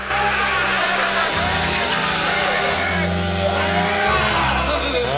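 A chainsaw taken from a folding bed is started, its engine roaring loudly and continuously, its buzzing pitch surging and dropping as it is revved several times over about five seconds while swung at a man.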